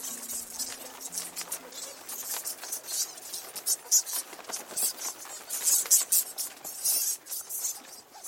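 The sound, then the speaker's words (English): A swarm of bats, disturbed by people running in among them, streams out overhead, a dense, continuous patter of fluttering wings mixed with sharp, high-pitched squeaks and clicks that swell and surge unevenly throughout. “And because we've run in and disturbed them, they've all started flying out overhead. I can feel like wings flapping really, really close to me.”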